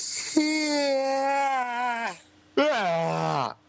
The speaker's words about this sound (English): That's me yawning. Did you really have to do that? I can do obnoxious yawning.